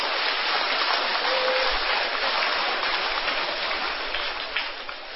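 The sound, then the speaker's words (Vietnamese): A big audience of children claps together on request in a dense, steady roar of applause that holds strong for about five seconds, with no voices above it, before easing slightly at the end. “Hãy về một tràng vỗ tay thật lớn.”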